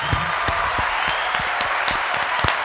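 A round of applause from a small group, steady dense clapping with sharp individual claps standing out throughout, moderately loud, with no talking.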